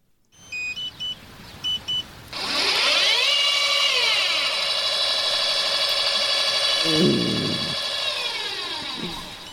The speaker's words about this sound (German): wenn wir bei unserem Übertragungswagen die Satellitenschüssel ausklappen und die Schüssel sich dann in den Sender sucht